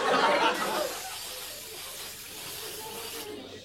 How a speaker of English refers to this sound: Mortine house and garden spray.